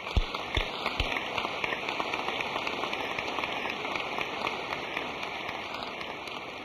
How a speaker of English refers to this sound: Will you rise, gentlemen, and let us applaud you, please.